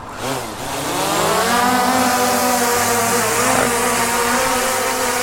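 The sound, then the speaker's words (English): A drone is launched to film a child migrant detention facility; its motors spin up with a rising buzzy whine, then settle into a loud, steady high-pitched drone with a harsh rushing edge. No one speaks. “So we're gonna throw the drone up so that way everybody can see.”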